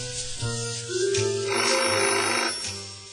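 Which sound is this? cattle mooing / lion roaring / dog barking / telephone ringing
telephone ringing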